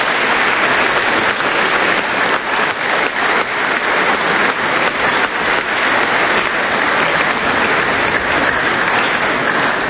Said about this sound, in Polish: Jest z nami gość, którego obecnością bardzo się cieszymy. Przybył z Lublina profesor doktor habilitowany Mieczysław Ryba. Gromkie brawa dla naszego prelegenta.